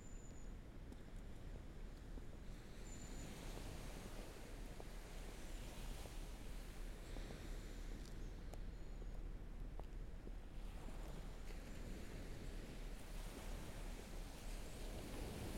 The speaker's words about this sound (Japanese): 水平線へと続く銀色に輝く波はあの頃と何一つ変わらない。